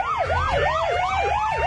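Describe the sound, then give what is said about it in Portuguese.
A police siren wails in a fast, rhythmic yelp, sweeping up and down about five times, loud and steady, with a thin tone slowly rising beneath it and a low rumble. “5:06, cadê o Giroflex?”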